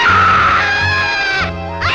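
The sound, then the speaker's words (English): A loud, sustained human scream of a person running off down the street, wavering in pitch and dipping briefly before rising again near the end. No talking accompanies it. “I realized that I had murdered it, and I took off screaming down the street.”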